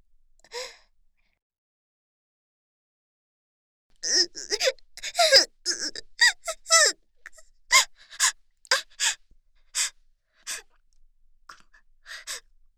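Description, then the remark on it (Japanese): A woman, a staff member at an ear-cleaning specialty shop, suddenly sobs: one soft breath, a pause, then a run of quivering, gasping cries and whimpers in uneven bursts that gradually space out and fade. No words are spoken. “ごめんなさい。突然泣いてしまって。”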